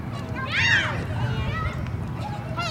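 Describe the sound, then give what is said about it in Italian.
Lively voices of orphaned children overlap in a busy play scene, with high excited calls and shrieks rising above a steady murmur of kids chattering and moving about. “Immaginate, o meglio, ascoltate i giochi di questi bambini.”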